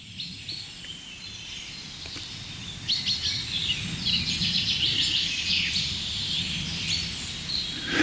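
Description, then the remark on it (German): A bird calls excitedly with a rapid run of sharp, high 'pink' notes, growing busier after the first few seconds, over a low steady background rumble with no talking. “Pink, pink, pink. Ist irgendwie ein bisschen aufgeregt, der Kollege.”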